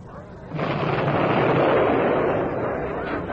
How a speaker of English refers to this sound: I say, Ramsden, sounds like a real old battle going on back there. I can't think what's happening, sir. Maybe Jerry's found a way of getting his tanks into the pass and is giving Sergeant Ryan a whopping.